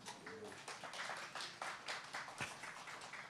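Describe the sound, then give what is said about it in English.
An audience in a church applauds the worship team, dense overlapping hand claps forming a steady wash of clapping that holds evenly throughout. “Let's give a round of applause for the worship team.”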